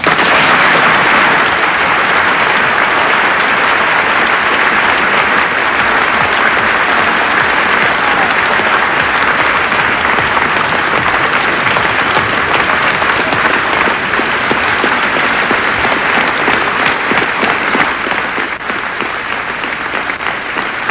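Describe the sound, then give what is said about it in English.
Sustained, loud applause from the whole of the Union standing after a speech by James Baldwin, dense rapid clapping forming a steady roar that holds level for the full length with no voices breaking through. “Tremendously moving moment now, the whole of the Union standing and applauding this magnificent speech of James Baldwin.”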